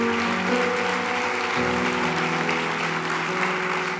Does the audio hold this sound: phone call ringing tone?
no